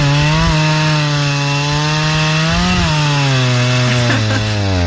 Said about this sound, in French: C'est une tronçonneuse. Et c'est tout.